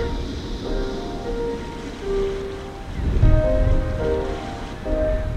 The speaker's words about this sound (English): And the ocean in her waves flowing.